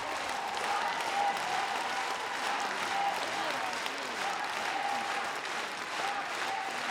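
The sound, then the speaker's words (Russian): Steady audience applause fills the whole stretch, a dense, even wash of many hands clapping at a constant loudness, with faint voices mixed into the crowd noise. “похлопаем, похлопаем артисты.”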